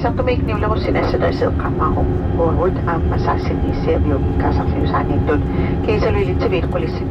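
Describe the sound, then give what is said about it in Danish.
A steady, loud engine drone fills an airplane cabin at Sisimiut throughout, a low continuous roar with voices talking over it. “Så er Sisimiut lige uden for flyet.”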